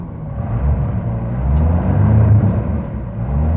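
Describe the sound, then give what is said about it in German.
A car engine sputters with a rough, uneven low rumble, struggling and failing to start after running smoothly all morning, getting too much air. It is fairly loud, with no voices. “Den ganzen Morgen lief er wie ein geölter Blitz und jetzt streikt er.”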